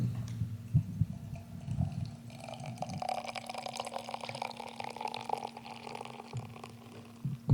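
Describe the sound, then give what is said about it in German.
Beer runs steadily from a freshly tapped black keg with a soft, continuous gurgling rush and a low hum underneath, occasional small splashes and drips breaking through, no voices. “Und jetzt müsste es schon laufen. Es läuft.”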